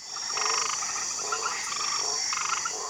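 An Australian white tree frog croaks in short, rasping pulsed bursts, repeated a few times against a steady high-pitched night chorus, clear with no one speaking.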